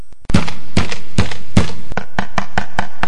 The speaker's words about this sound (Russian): Вдруг в дверь кто-то постучался.